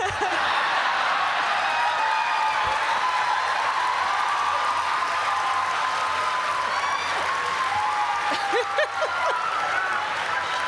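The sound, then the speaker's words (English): A large audience claps together in a steady, continuous wash of applause, with scattered whoops and voices mixed in throughout. “We're doing the clap.”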